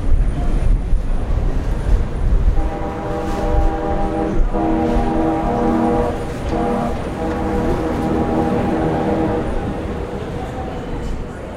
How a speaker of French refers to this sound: Nous sommes dans le grand courant d'air du RER, plus qu'encore que dans le métro. La longueur des couloirs provoque des effets assez spectaculaires.